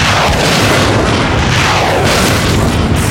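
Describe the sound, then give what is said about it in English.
Loud, continuous explosions as rockets blow up canoes, fishing boats and barges on a bay boom and rumble together in a dense, heavy barrage with deep low-end roar and crackling debris, with no voices present. “In short order, canoes, fishing boats, and barges were blown to smithereens, the wreckage swiftly sinking to the bottom of the bay.”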